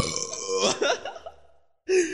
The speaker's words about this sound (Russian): Хуя, отрыжка жестко.